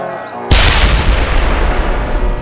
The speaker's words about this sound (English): The explosion sent bits and pieces of the wagon flying in all directions and lifted the second wagon up and over the edge of the road.